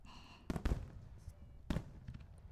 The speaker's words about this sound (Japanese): せっかく花火が上がってるんだもん、花火の下でエッチしたくない？